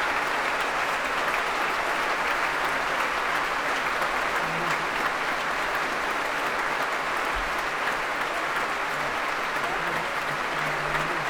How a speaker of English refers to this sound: An opportunity for all of them to shine in that work, and they're being warmly applauded by Donald Runnicles for their Proms debut, all 16 of them.